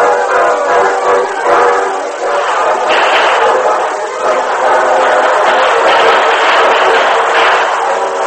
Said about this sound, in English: Knowing that help was on the way, the soldiers fought furiously. Their heavy gunfire slowed the Indian attack.